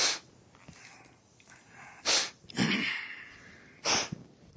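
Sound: sneeze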